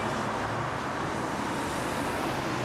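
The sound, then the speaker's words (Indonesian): Steady street traffic at a bus stop hums and rushes by at moderate loudness, a continuous wash of passing vehicles with no distinct pauses and no voices. “Kita bisa naik bus di halte bus ini.”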